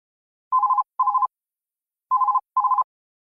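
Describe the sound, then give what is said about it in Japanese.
A telephone rings at a company office in two double bursts, each a pair of short warbling trills separated by a pause, clear with no voices. “会社で女の人と男の人が電話で話しています。”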